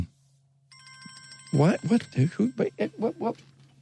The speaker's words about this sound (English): the phone's ringing and I don't recognize the area code or anything. We'll see what happens.